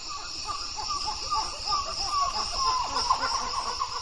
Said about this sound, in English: We are hearing at the background a group, a family of monkeys named Dusky Titi monkeys. He's sort of like a 5 or 6 pound monkey. He lives in families, and what you have is the males of two groups are at the edge of the territory,